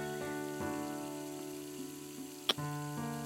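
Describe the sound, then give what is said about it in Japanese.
A single crisp kiss smack lands near the end, sharp and brief, over a steady backdrop of running water while dishes are being washed, with no voices. “こうしてキスしても抵抗できない無防備な君にもう一回キスしようかな。”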